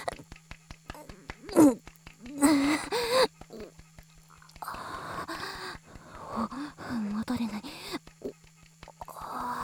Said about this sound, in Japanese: また息かけてる。